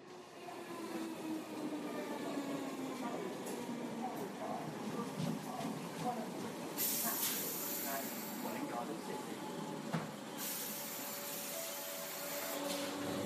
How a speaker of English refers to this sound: I'm whizzing down on a train to London for work.